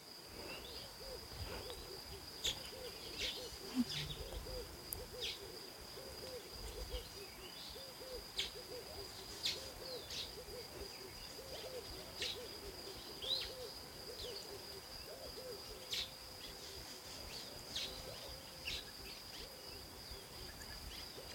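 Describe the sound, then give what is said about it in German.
A dense nighttime-sounding chorus of wildlife in tropical air: steady high insect-like buzzing, scattered short calls and chirps from many different bird species, and low hooting, all at a moderate, even level with no talking. “Nehme dieses Vögelgezwitscher wahr. Diese ganz vielen Tiere, die ich nicht kenne, diese vielen Vogelarten, die ich nicht kenne.”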